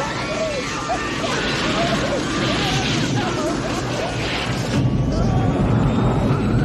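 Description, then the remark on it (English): A loud, continuous clatter and banging of a metal service cart crashing around inside a roaring airplane cabin after a window is blasted open, around a man struggling on the floor, with thuds and rattles over a constant rumble and faint voices underneath. “Dion struggles on the ground as the service cart crashes around him.”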